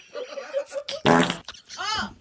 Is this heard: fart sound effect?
yes